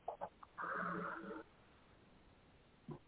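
Quiet, close breathing picked up on an open microphone: a few short huffs, then a longer raspy, snore-like exhale, and one more soft breath near the end, with no talking.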